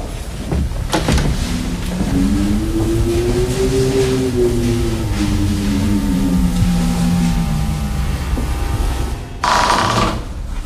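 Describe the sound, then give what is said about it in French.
Wind moans and echoes inside a building at night, a low hollow tone slowly rising then falling over a steady loud rush of air, with a brief sharp burst near the end. A slight opening makes the space act as an echo chamber. “Le vent ici, par exemple, c'est du vent, c'est impressionnant.”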